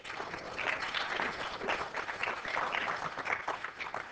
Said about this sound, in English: Could you give her a big clap?